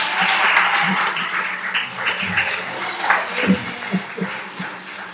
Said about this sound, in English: like to take that text that was read, the colors of Jesus, and let's give a hand clap of praise for the whosoever will praise us.